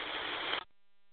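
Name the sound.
radio static white noise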